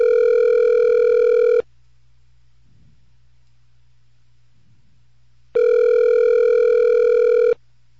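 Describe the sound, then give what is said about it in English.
A telephone ringback tone from a call made on a cell phone buzzes twice, each ring lasting under two seconds with a long silent pause between, clear over a faint low hum, with nobody answering or speaking. “I'm just picking numbers out of my cell phone and I'm calling them. And, it's not working.”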